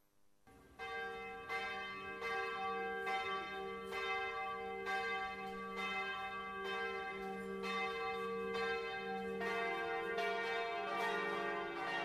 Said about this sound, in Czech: Tačno u ponoć zvona hrama Hrista Spasitelja simbolično su oglasila dolazak najradosnijeg praznika Božića.